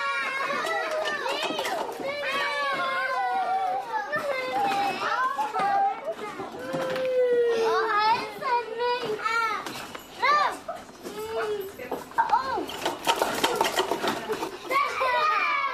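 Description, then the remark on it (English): Toddlers shout, squeal and babble over one another in a lively playground, their high voices rising in overlapping bursts with running footsteps and constant activity. “Competition is more ancient than cooperation in the evolution of our species, and this soon becomes evident in the toddler's playground.”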